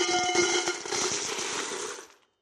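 A loud, dense cascade of coins dumped from a tumbler into a bowl, with rapid metallic clinks and ringing tones that clatter steadily for about two seconds before cutting off.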